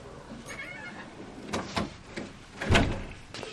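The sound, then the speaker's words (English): A door is pushed shut, with a few short rattles and a squeak before one solid thud as it closes, then quiet background noise. “can you shut that door please? This is bringing Lara in mosquitoes and things.”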